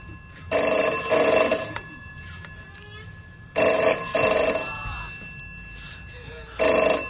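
A loud telephone bell rings in bursts, three rings spaced about three seconds apart, each lasting around a second, with faint murmuring voices in the quiet gaps between.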